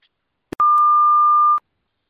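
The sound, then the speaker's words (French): A brief click, then a single loud answering-machine beep: one steady, mid-high electronic tone lasting about a second before cutting off cleanly into silence. “Bonjour le bip sonore.”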